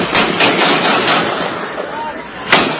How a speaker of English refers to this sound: Gunshots from a video that reportedly shows an unarmed prisoner being shot to death for allegedly being part of the Afghan military that fought with U.S. troops.